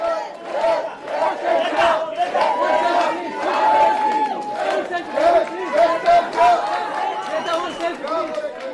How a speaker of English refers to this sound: She described to me the atmosphere in the airport once the crowd of supporters greeting the activists understood that Greta would soon be walking through the arrivals gate.